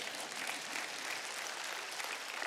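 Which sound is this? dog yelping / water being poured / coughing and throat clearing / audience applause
audience applause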